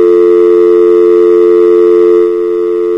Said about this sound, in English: Customer hung up on me. Uh-oh. I hear a click. And do the dial tone.